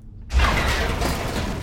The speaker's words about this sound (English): a metal chair goes flying past her. She spins around, startled.